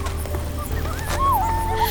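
Coyotes calling: a thin, wavering howl that slides up and down in pitch, with a few shorter yelps before it, over a steady low rumble. No one speaks.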